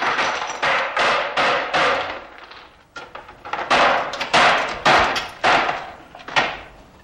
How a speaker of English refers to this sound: So he smashes the icon.